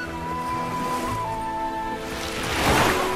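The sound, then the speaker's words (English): Sea waves heard in an old seashell held to the ear: a soft, hollow rushing like ocean surf, swelling louder toward the end, with faint sustained musical tones underneath and no voices. “This is an ancient shell that my mother gave me a long time ago. Hold it to your ear and listen carefully. You will hear the song of the sea.”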